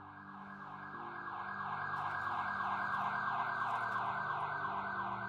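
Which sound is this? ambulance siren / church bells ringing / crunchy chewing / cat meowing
ambulance siren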